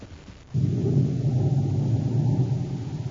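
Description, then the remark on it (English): A thunderstorm building in violence, with heavy rolling thunder and occasional lightning: after a brief hush, a deep, loud rumble breaks in and keeps rolling steadily, powerful, with no voices. “As the storm builds in violence, Buzz and Abby stand in the darkened office shack, looking out the window toward Baccarati's small, sleek atmosphere ship.”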